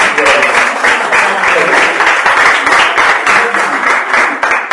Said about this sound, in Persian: خب دوستان خودتون رو تشویق کنید.